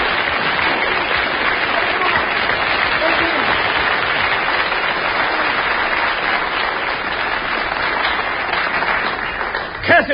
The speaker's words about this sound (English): I recognize the applause.